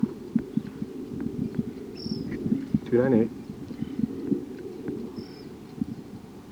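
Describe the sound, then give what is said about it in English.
A few brief, high bird calls, one a short buzzy burst and two thin chirps, from birds numbered 57 and 298 at a net site, with wild birds in the trees just south of it, while a man speaks softly over a low background rumble. “Now 57's calling, and 298.”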